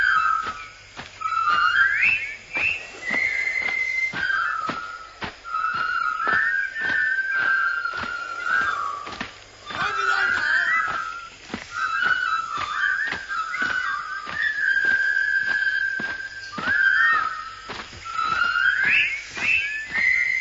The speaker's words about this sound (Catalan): I aquest és un altre dels instruments humans, eh? El xiulet. Ja us imagineu pel carrer, arreglant una tuberia, estenent la roba, cuinant, jo què sé.